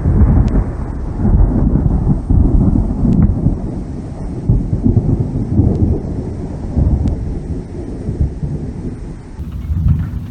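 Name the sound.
thunder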